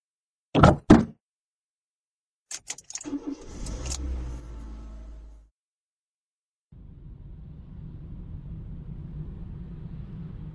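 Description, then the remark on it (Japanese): A car door clicks open, followed by knocks and rustling as someone climbs in and the door thuds shut; moments later an engine starts and settles into a steady idle, in daytime. “車に乗りましょうね。”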